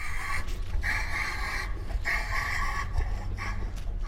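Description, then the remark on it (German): A rhinoceros gives short, breathy calls, the short call rhinos make when meeting one another to announce their presence; three or four pulses repeat in a steady rhythm over a low background rumble, moderately loud, with no talking. “kurzer Laut, der immer ganz gern so in Situationen ausgestoßen wird, wenn Nashörner sich untereinander treffen”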